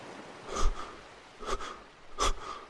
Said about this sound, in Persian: عمه سلام، برای چی نفس نفس می زنی؟